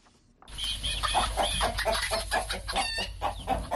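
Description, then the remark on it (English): Many chickens on a poultry farm in Santa, on the outskirts of Bamenda in northwest Cameroon, cluck and squawk together in a dense, continuous chorus, fairly loud, with a steady low rumble of farm background underneath and no talking. “rears chicken in Santa on the outskirts of Bamenda in northwest Cameroon.”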